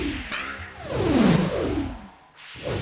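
An arrow whooshes through the air after being loosed from a bow, a loud, sweeping rush of air with a falling tone that fades, then a brief second swish near the end.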